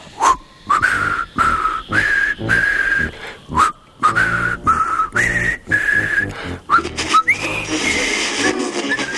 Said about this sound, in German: Bitte pfeif uns ein Lied. Ein Geburtstagslied. Aber ganz sanft. Eins, das wir alle kennen.